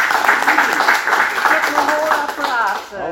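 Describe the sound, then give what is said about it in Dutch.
Steady audience applause fills the whole stretch, a dense crackle of many hands clapping at once, with voices rising through it near the end. “Wat een applaus even.”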